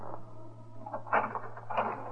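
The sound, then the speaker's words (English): A door is opened: two brief wooden clunks and rattles about half a second apart, heard over a steady low electrical hum, with no one speaking. “Open the door.”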